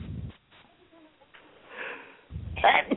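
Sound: sneeze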